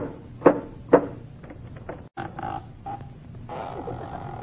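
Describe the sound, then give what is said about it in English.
Two firm knocks on a door, about half a second apart, followed by a pause and then softer shuffling and movement sounds. “Costello, once and for all, will you please knock on the door?”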